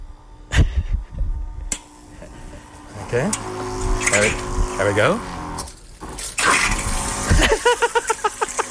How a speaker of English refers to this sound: So turn it on. The battery is normal. Double click the button to start water pump. So it's going to pressurize.